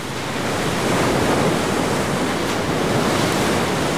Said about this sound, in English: At Slater's Surf Ranch, you almost feel like you're at the beach. Except these waves are made by a machine, and they've been engineered to be perfect for surfing every time.